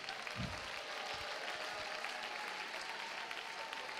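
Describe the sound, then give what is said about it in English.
A crowd claps steadily and loudly during a praise break, with dense overlapping applause and a few low thumps, while faint cheering voices rise through the noise for several seconds. “Come on, if you've never clapped, you need to clap. If you've never shouted, you need to shout.”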